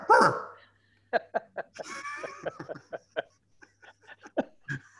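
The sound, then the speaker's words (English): A person imitates a dog for a knock-knock joke, with a loud opening bark, followed by a rapid series of short, yappy woofs and panting-like sounds. “I'm a dog. Try it. Knock-knock.”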